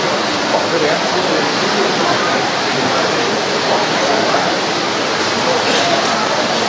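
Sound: rain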